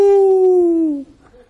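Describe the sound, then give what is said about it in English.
A person lets out a single loud howl imitating a dog after a grandchild gives him a kiss, one drawn-out tone lasting about a second and sliding gently downward before breaking off into quiet. “After she gives me a kiss and I howl, then she wants out.”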